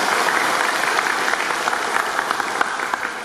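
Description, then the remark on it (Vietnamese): A crowd claps steadily for a few seconds, a dense, even patter of many hands without a pause, no voices standing out; the audience at a Buddhist dharma talk applauding. “Cho ông tràng pháo tay nào.”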